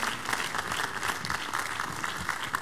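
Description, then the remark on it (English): Steady, dense applause from a large church audience clapping for Jesus, many hands clapping together in a continuous bright crackle that holds an even loudness throughout without pauses. “Give Jesus a big, big hand as we receive our Father.”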